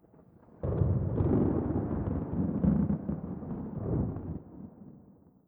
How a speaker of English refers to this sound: The sky is full of clouds. There is about to be a thunderstorm, said Mummy Pig.